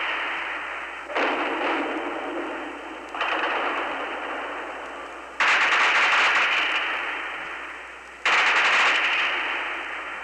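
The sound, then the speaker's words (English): Sustained bursts of automatic gunfire from fighting in East Beirut, Lebanon, rattle about 100 meters away, beyond a line of residential buildings. Four loud volleys start abruptly and each fades slowly into a dense, echoing roar, with no voices heard. “The gunfire is coming just about 100 meters from where I'm talking now, on the other side of a line of residential buildings.”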